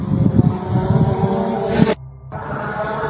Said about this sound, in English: But you can hear what sounds like a drone, rotor, and all that. So because there were loads of videos popping up all over New Jersey and other places of these mysterious objects that sound like drones, they look like planes, people were confused.